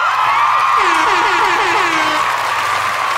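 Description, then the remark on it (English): Dense, steady applause fills the whole stretch at an even loudness, with a short run of repeated low, rising whoops or tones sounding beneath it partway through. “I gotta get that nigga some claps, yo.”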